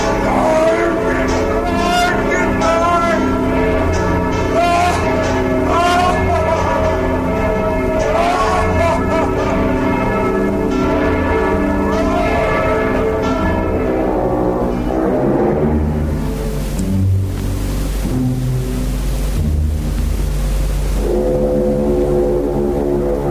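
Several church bells, rung by the bell-ringer Quasimodo hanging from their ropes, ring together in a loud, continuous peal, their overlapping tones swelling and clashing for over twenty seconds before a deep low bell booms near the end.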